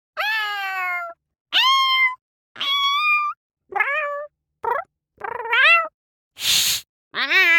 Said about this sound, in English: Cats and kittens.